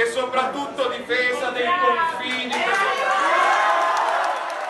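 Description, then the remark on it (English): At a political rally in Italy on June 3rd, Italy's new Interior Minister speaks forcefully to a crowd about defending the borders, then a large audience breaks into loud, sustained applause and cheering that swells and fills the rest of the moment. “And most of all, for defending our borders, he says to large applause.”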